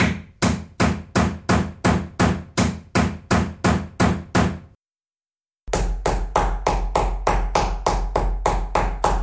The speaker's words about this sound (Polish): Tak stuka młotek, kiedy tata wbija gwóźdź.